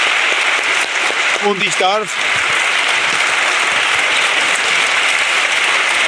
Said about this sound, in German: Bitte zum Abschluss noch einen großen Applaus für unsere Gäste, Ministerpräsident Viktor Orban, Bundeskanzler Gerhard Schröder.